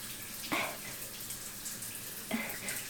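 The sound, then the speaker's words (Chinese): Water runs steadily from a leaking faucet whose valve will not shut, a continuous hissing stream with two brief splashy surges. The sound is moderately loud, with no voices. “儿子，你快来看看， 是不是因为这个水龙头的阀门关不上了呀？”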